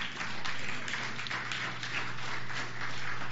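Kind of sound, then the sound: crowd, audience applauding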